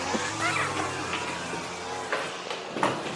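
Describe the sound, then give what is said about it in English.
A string trimmer being used across the road buzzes, heard from outside a house: a steady droning whine with a low humming pitch that fades partway through, over a wash of broad outdoor noise and a few faint voice-like bursts. “apologies for the sound of that whippersnapper in the background”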